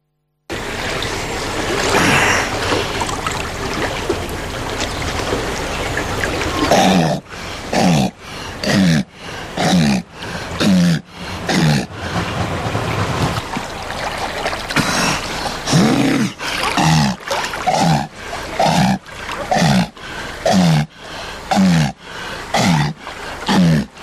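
A seal named Puika at the Riga Zoo, which recently had its 20th birthday, calls out in a long series of loud, guttural barks, repeated roughly once a second, following several seconds of rushing, splashing water-like noise at the start.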